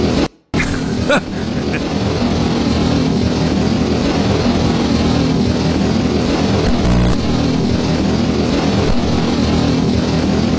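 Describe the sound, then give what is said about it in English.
A loud, continuous droning electronic hum layered with a low, buzzing ground hum, holding steady for about ten seconds after a brief cutout at the very start. “Mix a little ground hum in with it.”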